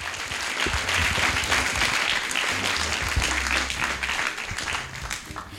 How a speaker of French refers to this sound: On peut l'applaudir également, ouais, carrément.